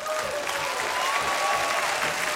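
A steady burst of applause from a small group in the studio booth of Jerusalén Radio, dense clapping with a faint whistle-like tone over it, sustained for the whole couple of seconds, applauding the day's guest.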